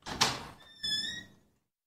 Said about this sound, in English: While I was scrubbing the sinks, though, I heard the front door of the building open.